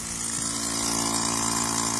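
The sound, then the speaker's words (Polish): A steady mechanical drone of the machine that runs as the mast of a broadcast van extends, like a pump or small motor, with a constant low hum and hissing upper noise, holding even loudness throughout with no talking. “Tutaj jeszcze kiedy masz się wysuwa, to też tam taki jest taka maszyna.”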